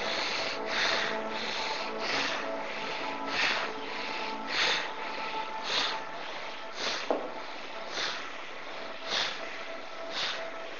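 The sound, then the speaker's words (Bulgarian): Steady, forceful breaths drawn through the nose during a breathing exercise of powerful, deep, free breathing, around ten rhythmic whooshing pulses roughly a second apart, breathy and rushing, with no talking. “Сега за няколко минути дишане през носа, мощно, дълбоко, свободно дишане.”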